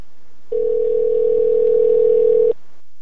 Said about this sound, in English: Anybody that has my AT&T number, that number went to my mom. My new number is what we're going to call right now.